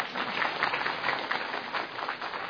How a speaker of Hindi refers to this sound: best coordinator के लिए तालियां जोर से,